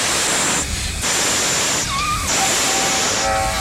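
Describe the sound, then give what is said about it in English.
A crowd of voices imitates a snake with a loud, sustained hiss that dips briefly a couple of times, and faint whistle-like tones come through near the end. “Can you make a snake? I can't hear anybody hissing out there.”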